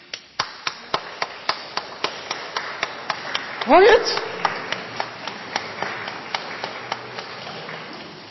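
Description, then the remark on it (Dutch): Steady hand clapping meant to imitate splashing, flowing water: sharp, crisp claps repeating at a brisk, even pace throughout, with a short spoken question partway through. “Als je denkt aan stromend water, hoe klinkt dat? Dat klinkt als handengeklap.”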